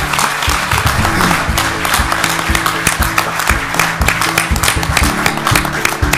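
An audience claps steadily for about six seconds in a round of applause for the event's organizer, a dense, loud wash of many hands with a low, humming murmur underneath and no clear speech.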